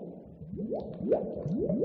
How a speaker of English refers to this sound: The way I think about it is almost like you have bubbles that are making sort of a bloop sound, and they're separating and continuing to divide and separate.